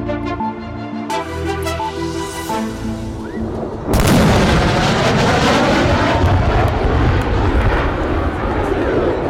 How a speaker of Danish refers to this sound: Det her er lyden af et F-16-fly, der bryder lydmuren.